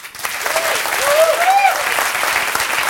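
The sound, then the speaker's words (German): Steady applause from a talk show studio audience welcoming the first interview guest, dense and continuous clapping with a brief whistle or cheer rising through it. “Und ich bitte das Publikum, euch ganz herzlich”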